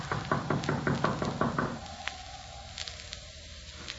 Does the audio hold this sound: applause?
no